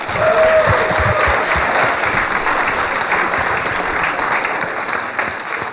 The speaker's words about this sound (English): Yeah, that's deserving of a round of applause.